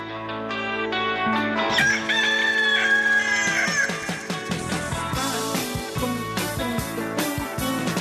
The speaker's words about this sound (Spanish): canten con el gallo y con …, porque son las 6:05 a.m.